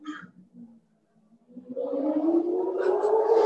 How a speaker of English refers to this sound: I hope you can you hear that motorcycle racing by God? And I'm inside with all the windows closed trying to block out noise, but I don't know if it's going to do much good because of where I live.